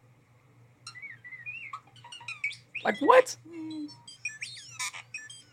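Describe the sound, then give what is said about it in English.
A starling chatters and whistles in quick, varied bursts: high chirps, sliding electronic-sounding squeals and clicks, some phrases mimicking other sounds. Brief human speech mixes in, with a low steady hum underneath. “Okay, let's hear this starling.”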